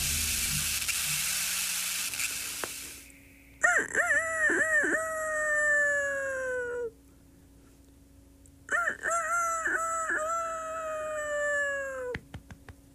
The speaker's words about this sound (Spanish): Comenzar con el canto del gallo es siempre un buen comienzo. Cuando el gallo canta, el sol se levanta.